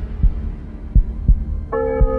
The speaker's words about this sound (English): Track 6 is a nearly 4-minute cut with complex layering of effects and frightening music for the heart-pounding finale. It starts off with an underground heartbeat that gets louder.